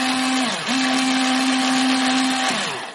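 An electric pencil sharpener grinds a plastic straw, its steady motor whine humming loudly and sagging in pitch twice as the blade bogs down.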